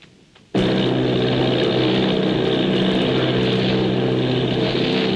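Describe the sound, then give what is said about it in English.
A loud, steady drone of propeller engines from eight army bombers off Bayonne, New Jersey, kicks in abruptly after a brief quiet moment and holds continuously, heavy, with a low throbbing hum and no talking. “Army bombing plane V-843 off Bayonne, New Jersey. Lieutenant Vogt commanding 8 bombers, reporting to Commander Fairfax Langham Field.”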